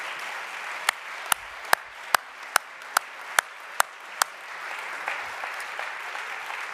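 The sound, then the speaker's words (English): An audience claps their hands unto God together in a steady rhythm: about nine sharp, loud, evenly spaced claps ring out above a continuous wash of scattered applause, which carries on after the rhythmic claps stop. “Could you clap your hands unto God?”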